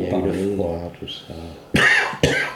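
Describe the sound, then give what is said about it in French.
A voice talks briefly, then two loud, harsh coughs follow close together, about half a second apart, sounding fairly forceful. “Ça va mieux avec ta toux ?”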